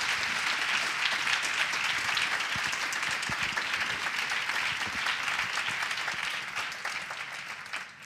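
An audience applauds steadily for about eight seconds, a dense wash of many hands clapping at once, holding an even, fairly loud level before easing slightly at the very end.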